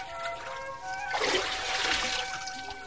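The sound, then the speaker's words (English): A quiet moment gives way to a burst of splashing water as Naaman dips under the water and comes back up, with the sloshing continuing over a faint tonal background. “Breathless, the servants watched as Naaman once more dipped under the water.”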